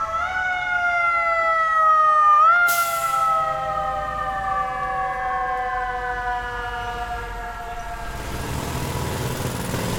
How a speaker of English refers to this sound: The first thing you notice, wherever you are in New York, is the sirens as they battle to make their way through slow-moving traffic.